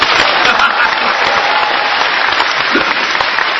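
A crowd applauds steadily, dense clapping filling the whole stretch at an even, fairly loud level with no pauses or voices standing out.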